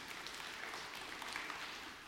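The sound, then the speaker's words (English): An audience claps together to give God a hand clap, a dense, steady wash of many hands with no single claps standing out, holding at an even, fairly soft level for a couple of seconds with no voices. “yeah, go ahead, give God a hand clap.”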